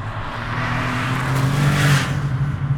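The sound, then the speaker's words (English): A car engine revs loudly and steadily, its pitch climbing and holding with a brief screech of tires near the middle, continuous with no voices. “So it wants to immediately say, that is a car, that is a tiger.”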